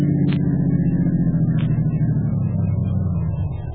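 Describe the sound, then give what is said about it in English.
A car engine rumbles as the vehicle rolls slowly into a workyard and parks in a garage next to a truck, its steady low drone easing slightly toward the end, with a couple of brief high clicks and no voices. “Head into the workyard and park in our garage.”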